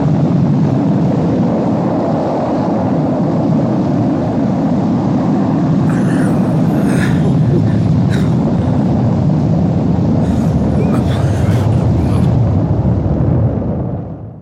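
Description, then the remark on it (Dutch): Rocket engines roar at launch, a loud, steady, deep rumbling blast that holds for the whole stretch, with brief crackling bursts rising above it midway, then tapering off at the very end as the engines are shut off before reaching the right speed. “Ze hebben de motoren afgezet. We hebben nog niet eens de juiste snelheid bereikt.”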